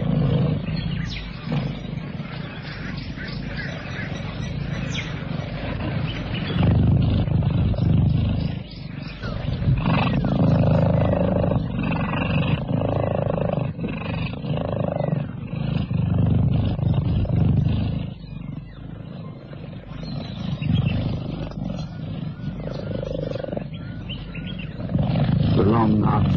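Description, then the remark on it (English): A family of cheetahs purrs beneath a tree at the water's edge in stifling heat, a deep, continuous rumble that pulses in steady rhythm, broken by a few short lulls, with faint bird chirps now and then in the background. “Beneath a tree on the water's edge, a family of cheetahs purr contentedly.”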